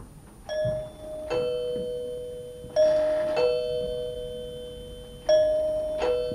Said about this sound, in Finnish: Nyt joku painoi ovikelloa ja samalla pöllön silmiin syttyi punainen valo.